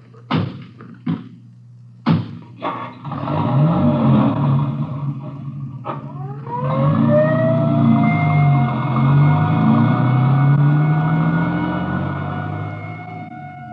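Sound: ambulance siren driving away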